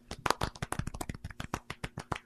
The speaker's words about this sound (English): Golf clap.